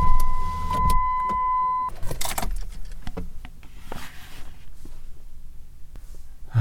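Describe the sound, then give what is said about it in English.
A car's power window hums down with a steady electric motor whine for about two seconds, stops with a soft thunk, then gives way to quiet rustling and low background rumble. “Let me put down my window this if I can't hear.”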